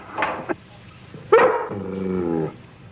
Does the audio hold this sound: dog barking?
yes